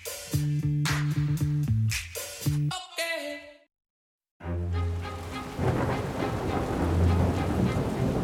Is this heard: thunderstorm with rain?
yes